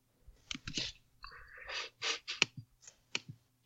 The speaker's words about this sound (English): Lots of typing.